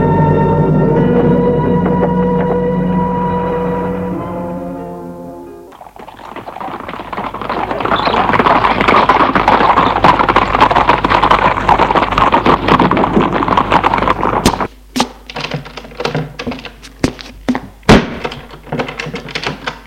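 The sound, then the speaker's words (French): A horse's galloping hooves pound in a dense, rapid rush after a sustained droning tone, then break off into a few scattered, irregular thuds near the end. No one speaks. “Après des heures de course folle à cheval, il est d'humeur lugubre.”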